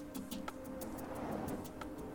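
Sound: bird song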